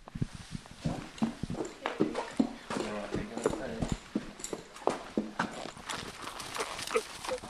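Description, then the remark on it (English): The hooves of a big male horse clip-clop in a steady, irregular walking rhythm, the hard knocks fairly loud, with people talking intermittently over the hoofbeats. “Well, the big fella here looks like he's ready to go. He's champing at the bit there.”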